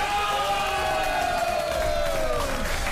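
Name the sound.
audience applause and cheering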